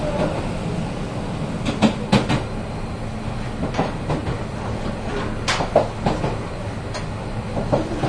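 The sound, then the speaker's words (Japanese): A local one-man train, stopping at every station and bound for Tsukinoki, nears Marumori station. It rolls steadily along the rails, a constant low rumble broken by sharp, irregular clacks as the wheels pass over rail joints, with no voices. “この電車は各駅停車の月の木行きワンマンカーです。”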